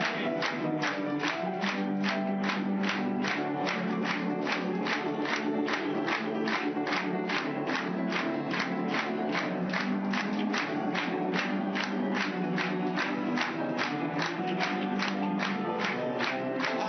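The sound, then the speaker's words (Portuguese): A crowd claps in unison to a steady, brisk beat in praise of the Son of God, the sharp rhythmic claps loud and continuous throughout, with a murmur of many voices beneath. “Batendo palmas pra ele.”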